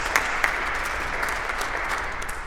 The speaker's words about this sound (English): I think it's okay to clap in church on a Sunday morning. Thank you so much.